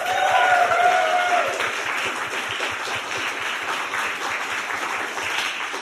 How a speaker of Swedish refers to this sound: Hon är juristen och radioankare på Tankesmedjan i P3. Ge en varm applåd till Dilan Apak.